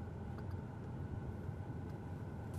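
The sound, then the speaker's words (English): A steady, low engine rumble from inside a car as it slowly backs into a garage, an even, continuous drone with faint higher hiss and no voices. “One moment, I'm backing into my garage.”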